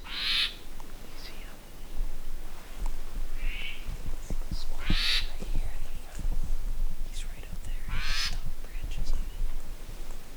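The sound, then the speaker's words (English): An Oma'o, a Hawaiian thrush, sings a few short, bright phrases spaced several seconds apart around the cabins in Hakalau, over a steady breathy rustle of outdoor background noise. “Spoiler alert, it was an Oma'o.”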